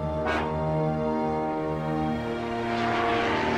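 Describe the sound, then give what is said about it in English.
An unmanned military drone aircraft flies by at Creech Air Force Base in the Nevada desert near Las Vegas, with a steady, droning propeller engine, its layered harmonic hum holding loud and constant throughout, with no voices. “Drones are these spooky-looking, unmanned flying objects.”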